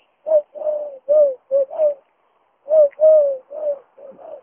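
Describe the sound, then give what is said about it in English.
A person imitates a bird call with low, hooting coos, two clear bursts of about five notes each separated by a short pause, with no other talking. “Sorry, I know that's not the best of impressions.”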